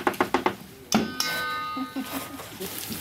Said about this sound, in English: So what have we got in the pan? You can hear it sizzling away. We love garlic, so a lot of garlic, onions and peppers. Smells delicious. And that is the base of what? Of the tomato soup. Tomato soup.